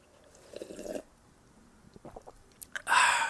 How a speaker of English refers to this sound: Let me take another sip of my scrimshaw here.